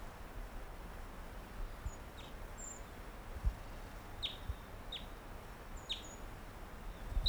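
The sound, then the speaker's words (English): Wild bird number 425 gives a few short, high chirps and thin whistles, spaced out over several seconds, then flies nearby; faint against a steady background hiss with no talking. “Gave some songs and flew nearby.”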